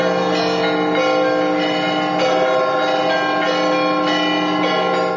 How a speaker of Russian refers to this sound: С ночи в честь праздника во всех православных храмах России прошли торжественные богослужения и звучали колокольные перезвоны.